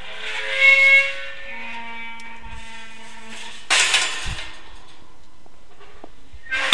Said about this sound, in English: There's the gate. Right, it's going to squeak.